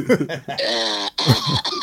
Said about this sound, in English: Oh, my God. Can you clear your throat before you ever make a phone call again?